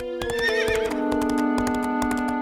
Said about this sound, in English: The baron rode his horse to the house of the baby's father.